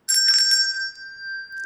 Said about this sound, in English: I would say things like, "This is a handbell.